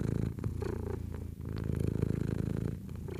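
cat purring

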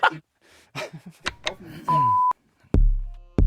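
short alarm beep

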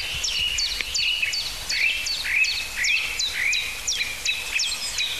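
blackbird alarm call

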